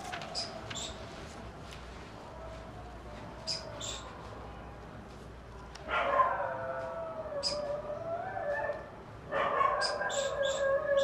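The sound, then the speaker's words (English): Several dogs howl in long, wavering tones that rise and fall, with short sharp barks scattered between. The chorus swells in two waves, with no talking. “Now, dogs are crazy. Too much crazy dogs.”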